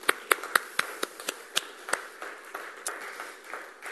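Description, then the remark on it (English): A small audience gives brief, scattered clapping: a handful of sharp, uneven claps at first, thinning into a softer patter of hands that fades out within a few seconds. “I think we can give Gideon and God a little clap at this point.”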